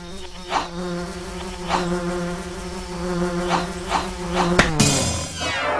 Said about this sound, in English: Oh no! What is that? It's the Queen Bee! I've never seen a such big bee before. Maybe I'll have to fight her.